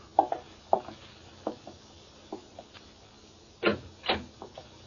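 door being opened

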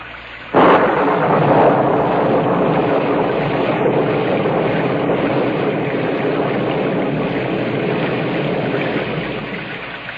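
rain sound effect

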